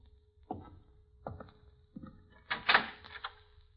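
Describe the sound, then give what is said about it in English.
A few sharp knocking clicks, like a handle being worked, followed by a louder scraping rush as a door swings open, with no one speaking. “That door behind you. Open the door”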